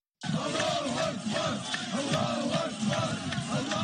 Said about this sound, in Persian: نعره‌های خوشی دقایق پس از حمله مرگبار حماس بر اسرائیل از کشورهای شرق میانه نه بلکه از یونان شنیده شد.